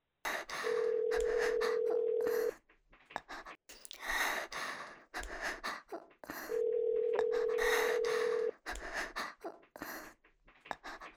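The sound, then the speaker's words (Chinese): A telephone call being placed to a boyfriend: two long, steady ringback tones heard through the line, with soft breathing and sighs filling the pauses between them. “又给男朋友打电话？”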